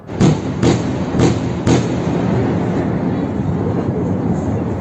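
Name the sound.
bomb explosion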